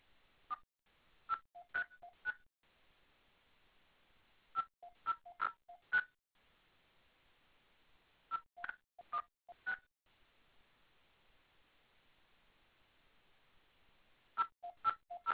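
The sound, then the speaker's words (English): Touch-tone keypad digits being entered on a phone to give an account number to the TD Card Services line: crisp dual-pitch beeps in quick bursts of several presses, separated by short pauses, clear over a quiet line with no talking. “If you have an account number, please enter it now.”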